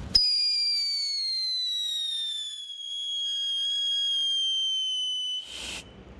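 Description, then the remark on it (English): Two Whistling Phantom whistling fireworks, lit together, shriek with a long, steady high-pitched tone that slowly falls in pitch for about five seconds, then end in a sharp crackling burst. No one speaks. “This is called the Whistling Phantom. I'm going to light them now.”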